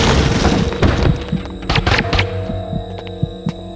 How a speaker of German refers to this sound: Noch bevor die Tür aus den Angeln splitterte, war ich zu einem Schatten geworden.